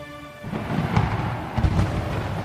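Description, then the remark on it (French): Heavy thunder claps roll through, with two deep booms about half a second apart over a continuous low rumble, loud. A faint sustained tone fades out at the very start. “Tout le peuple entendait les coups de tonnerre et le son de la trompette, et voyait les flammes de la montagne fumante.”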